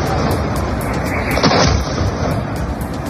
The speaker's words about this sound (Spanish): Este es el momento en el que varios de esos misiles impactaban contra una zona urbana en la ciudad de Tel Aviv. Ha sido un ataque masivo que se ha prolongado durante unas 5 horas y en el que Irán, según fuentes israelíes, ha lanzado casi 350 misiles